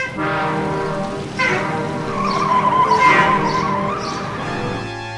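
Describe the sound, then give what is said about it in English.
A semi truck swerves to avoid a car pulling out in front of it, its tires screeching loudly in a long, wavering squeal that lasts several seconds over a low engine rumble, with no voices. “As I lurched into his path, he swerved and I instinctively screamed and turned away, missing him by inches.”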